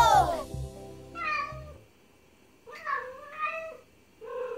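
A cat meows several times in close succession, each call a clear, rising-and-falling mew, fairly loud, with a brief rumbling noise at the very start.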